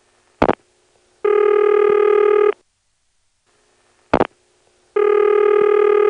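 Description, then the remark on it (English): A Pentaconta telephone exchange's ringback tone on a line to a number in the 672 exchange: two long buzzy tones about three seconds apart, each preceded by a brief click, with silence in between and no voices. “So we've already heard a ringing number in 672.”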